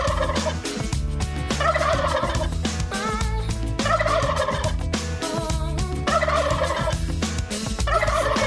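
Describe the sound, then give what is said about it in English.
Turkey gobbling repeats in short warbling bursts over a loud, busy musical jingle, the gobbles recurring roughly every couple of seconds and sitting up front in the mix. “Musical turkeys, songs you can't stand.”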